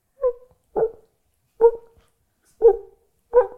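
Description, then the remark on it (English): A person imitates a faraway dog, giving five short, muffled barks at a steady, evenly spaced rhythm, each soft and hollow as if heard from a distance. “And it was one of those, and I'll do the voice, because one of my party tricks is I can do dog in a distance.”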